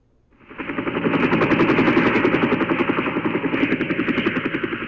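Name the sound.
helicopter arriving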